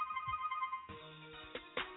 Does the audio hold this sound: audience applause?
no